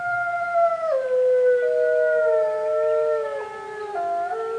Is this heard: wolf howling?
yes